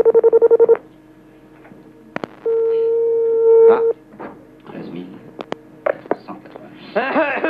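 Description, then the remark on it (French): A rapid burst of touch-tone dialing beeps as a radio show phones a listener, allowed four rings at most, then a long steady ringback tone on the line, followed by faint voices and noises over the phone connection. “4 sonneries maximum.”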